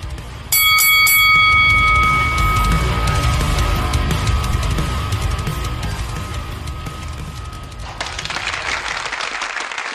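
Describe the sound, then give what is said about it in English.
A wrestling ring bell clangs in rapid repeated strikes at the start, its metallic tone ringing on and slowly fading over a loud cheering crowd and applause that continues throughout. “Are you ready? Ring the bell.”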